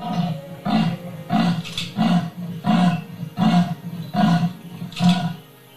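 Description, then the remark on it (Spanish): A female leopard, Olimba, calls with a steady series of about eight short, rasping roars, evenly spaced, each a deep throaty grunt, with no voices present. “Durante los días siguientes a la muerte de su cachorro, Olimba se mostró nerviosa y no paró de buscarlo durante días. llamando constantemente con pequeños rugidos.”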